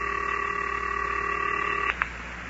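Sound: telephone number being dialed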